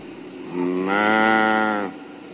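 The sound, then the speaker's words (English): A cow among a group of cows gives one long, loud moo close by, a drawn-out call lasting over a second against a quiet outdoor background, with no voices. “I hear the cows going moo.”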